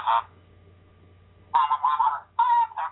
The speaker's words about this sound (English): I'm sorry, that's my iPhone, and that's a robot ringtone. Sorry, it's ugly as hell. Sorry about that.